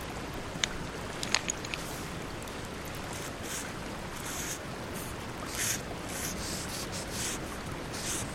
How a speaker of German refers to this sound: Da, die Feuerstelle. Wir schreiben mit verkohltem Holz.